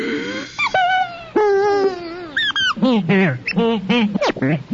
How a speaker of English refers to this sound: Feeling kind of strange. I don't know, I've been moving slow now for at least the last hour and a half or so. I mean, just listen to my labored breathing here.